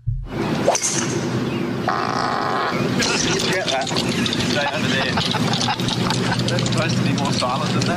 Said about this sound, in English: It's a loud fart, and he confirmed it, because he even said something at the end, like, aren't those supposed to be silent? Like, check this out.